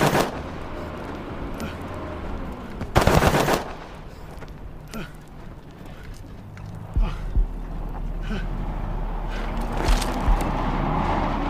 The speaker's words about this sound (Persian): دیاکو با یه دست به ماشین ابو خالد شلیک میکنه.